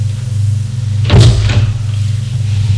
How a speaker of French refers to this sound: La porte s'est ouverte. C'est le maître d'hôtel.